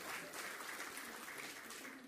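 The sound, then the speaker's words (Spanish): Steady applause from a crowd at an award ceremony recognizing the company Elon for a photovoltaic plant for self-consumption and 23 electric vehicles: a dense wash of many hands clapping at an even level for a couple of seconds without any voices standing out. “Un aplauso fuerte.”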